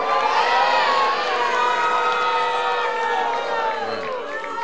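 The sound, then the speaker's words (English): A loud crowd at a live election-night edition of The Daily Show cheers and shouts continuously as Florida is called for George W. Bush, with many high voices whooping and yelling over a dense wall of noise that stays strong throughout. “And the crowd loves it.”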